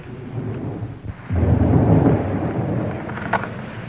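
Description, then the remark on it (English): A low, distant rumble of thunder from a storm a long way off rolls in after a brief lull, swelling for a couple of seconds and then trailing off into a steady hiss of rain, with no voices. “It's a storm, but it's a long way off. Listen for the thunder.”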